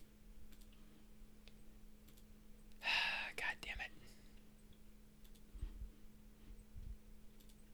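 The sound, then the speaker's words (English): Faint, scattered computer keyboard clicks tap irregularly while someone does research, mumbling and whispering quietly under their breath, with a brief louder rustle partway through and a low steady hum beneath. “I'm going to pause this a minute and do some research so you don't have to listen to me mumbling under my breath and hitting the keyboard.”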